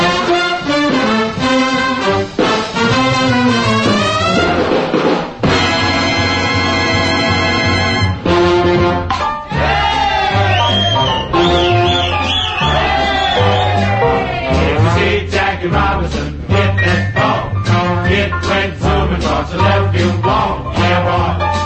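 A 1949 big band swing jazz recording plays loud, with a full ensemble of brassy horns over a steady, walking bass and rhythm section driving the beat throughout.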